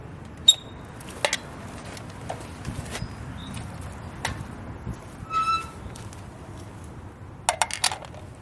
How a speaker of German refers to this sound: Auch eine interessante Tür, aber ohne Scheiß. So, gusseiserne Tür. Schließen kann er hier, das hört sich auch sehr schön an.